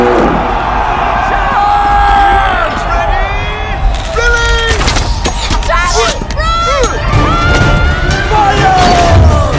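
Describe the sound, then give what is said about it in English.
Battle horns blare in long, wavering tones over a roaring crowd of shouting and whooping voices as two Viking armies, one with red shields on a shore and one with yellow shields on a hillside, blow their horns. The din grows more chaotic halfway through, with sharp crashes and overlapping cries. “The two armies blow their horns.”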